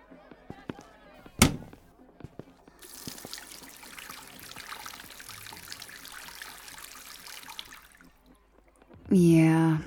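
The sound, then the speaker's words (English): A tap runs steadily for about six seconds while someone washes with soap, with a sharp knock just before the flow starts. A person begins talking as the water shuts off. “Yeah, that's not going away with soap and water.”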